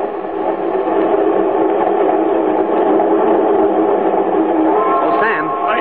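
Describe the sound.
A steady, loud rumble of a train rolling along the rails fills the whole stretch, with a faint voice-like tone rising briefly near the end.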